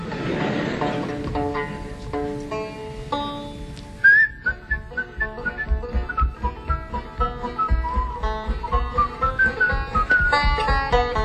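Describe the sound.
A person whistles a wandering, cheerful melody over a light musical accompaniment, the clear high notes rising and falling steadily after a brief instrumental opening.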